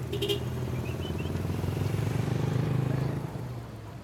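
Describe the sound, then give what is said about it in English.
A truck horn gives a quick goodbye honk as a heavy engine rumbles steadily, then the motor noise drops and begins to fade as the truck, full of children, drives off. “So with that, the former priest and accused child abuser honked goodbye and drove off with his truck full of kids.”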